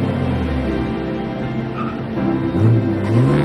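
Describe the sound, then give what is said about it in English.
A car engine rumbles steadily, then revs up, its pitch climbing as the vehicle accelerates away. No voices are heard. “He speeds away.”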